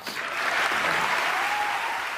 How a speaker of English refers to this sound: Now, when I hear that applause, I hear two things happening. One is people saying, oh, how beautiful. Like, this is so great. And the other is people saying, oh, good. He's not mad at us.